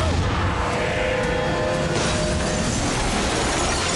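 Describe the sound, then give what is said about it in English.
A loud metallic crash as a man is flung against a metal locker, the clang ringing briefly over a dense wash of rattling noise that carries on throughout. “Bonnie holds out a hand and he's flung against a locker.”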